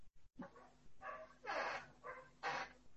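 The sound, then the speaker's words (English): A dog barks several times in a short irregular series, each bark a sharp, somewhat whiny yelp, quiet, with no voices present. “Now probably you can hear the barking sound of a dog.”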